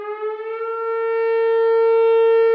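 An old emergency siren, which Fire Chief Chris Kazian's fire department is making do with as an alert, wails with a steady, sustained tone, growing slightly louder over a few seconds. It sounds loud and continuous, with no speech.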